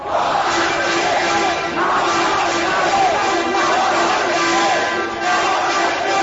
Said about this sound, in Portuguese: O comitê suprapartidário de Bolsonaro em Maringá estava preparado para a festa da vitória. E a cada momento, mais gente chegava. Quando o resultado estava se definindo, gritos de comemoração.